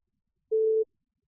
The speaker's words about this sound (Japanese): 女の人は電話をかけます。